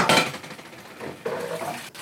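Dishes and cutlery clatter, a burst of clinking at the start followed by scattered knocks and scraping, then a second run of rattling handling noise toward the end.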